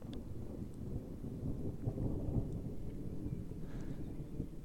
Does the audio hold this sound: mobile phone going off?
no